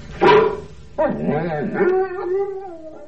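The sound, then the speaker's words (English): A big sheepdog-type dog in the back of a car lets out a single loud bark, then carries on with drawn-out, wavering vocal grumbles and howl-like moans for a couple of seconds. “Whose doggy are you? All right, dog then.”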